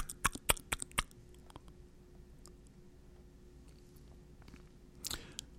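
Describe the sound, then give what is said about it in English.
A quick burst of about six sharp tongue clicks made by a person navigating by echolocation, followed by several seconds of near quiet with a low hum, then a short rough cluster of clicks near the end. “he uses his tongue to make noises, like tapping.”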